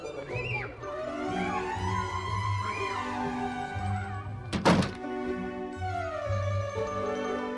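A single loud, sharp slam of a door banging shut, cutting through a steady bed of soft melodic music that plays before and after it.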